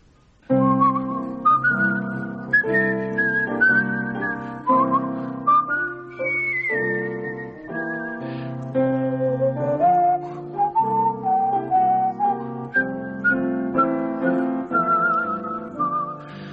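The theme tune of the Hayley Mills film Whistle Down the Wind is whistled clearly and steadily for the whole stretch, its gentle, wistful melody gliding up and down over a warm, sustained instrumental accompaniment, with no talking.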